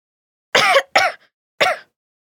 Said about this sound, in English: You've got a bad cough.